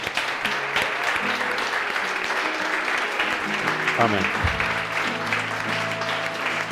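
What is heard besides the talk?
audience applauding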